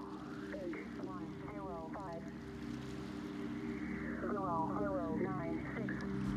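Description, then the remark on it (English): A steady, droning buzzer tone from the Russian shortwave radio station known as the Buzzer hums throughout amid static hiss, with faint garbled voice fragments drifting in over it twice. “There are some theories that the buzzer is still in existence,”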